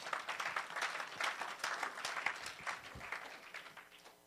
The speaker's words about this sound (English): Clap for the Lord Jesus.